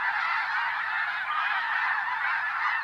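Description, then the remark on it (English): A dense, continuous chorus of snow geese honking overhead during autumn migration along a North American flyway, returning from Arctic breeding grounds; countless high, yelping calls blend into a loud, steady clamor from a large flock in flight. “This wild sound, some liken it to the baying of hounds, pours from the sky each autumn along all four North American flyways.”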